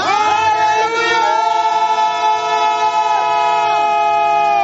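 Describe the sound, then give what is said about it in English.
A crowd of many voices shouts together in one loud, unbroken roar, their overlapping cries holding steady pitches with occasional rising and falling glides for several seconds. “Some of you, as you are shouting, certain infirmities in your body will be leaving.”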